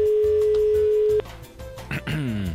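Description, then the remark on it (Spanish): A steady, mid-pitched telephone ringback tone sounds for about a second over a phone line as a radio show calls a guest, then cuts off, followed by faint line noise and the start of a voice. “Ahí está, por lo menos da tono, ¿eh?”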